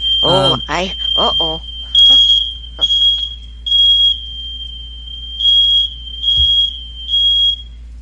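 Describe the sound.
A smoke alarm, set off by barbecuing right outside the door, shrieks with a loud, piercing high-pitched tone that pulses in repeated beeps throughout. A voice briefly speaks over it at the start.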